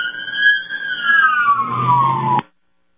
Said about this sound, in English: There go some of the brothers right there. You hear a siren, just remember somebody's life is about to be saved. So whenever you hear that or see that, keep that in mind.